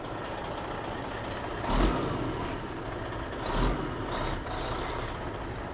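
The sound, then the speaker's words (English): A steady, rumbling diesel engine drones throughout, with two brief louder surges of mechanical noise, from tractors planting this year's crops in a field in central Ohio, in open air. No voices are heard. “In the central part of the state, tractors are busy planting this year's crops.”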